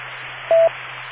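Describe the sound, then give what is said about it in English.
A short, mid-pitched electronic beep from a radio transmission cuts in, lasting a fraction of a second over steady, band-limited hiss and a low constant hum. “Wait for the beeps.”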